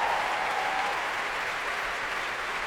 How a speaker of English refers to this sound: Applause for the brass there, the saxophones, trumpets on their feet. And the trombones.